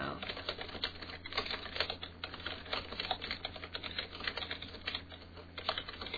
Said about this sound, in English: All right, I'm typing it out.